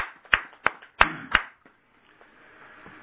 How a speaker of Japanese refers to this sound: ご本部への日産を続けられて15年を迎えられましたので皆さん盛大な拍手でお祝いします。